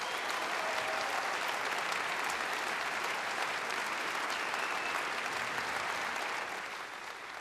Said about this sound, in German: Applaus für das fabelhafte Trio ….